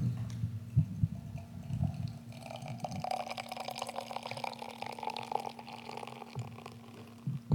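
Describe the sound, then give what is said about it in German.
Beer pours from a tap on a black keg in a steady, hissing stream that fills a glass, with irregular gurgles and drips at first and a constant low hum underneath. “Es tropft ein bisschen jetzt, aber...”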